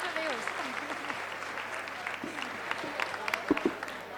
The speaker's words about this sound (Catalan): I l'aplaudiment d'aquesta sala d'actes.